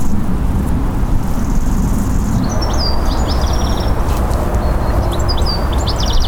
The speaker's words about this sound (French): Il y a des grillons dans les hautes herbes derrière la guinguette.